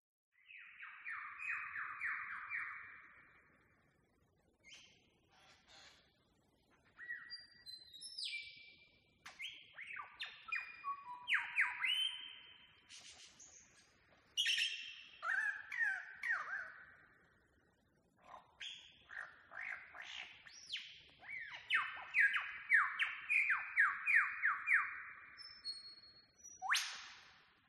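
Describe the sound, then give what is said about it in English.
A male lyrebird in Emerald, recorded in July 2009 on a phone, sings a long, varied song of ringing whistles, rapid trills, sharp whip-like cracks and mimicked calls, loud, with brief pauses between bursts and no talking. “I recorded a male lyrebird in Emerald in July 2009 on my phone, and I would love to play it.”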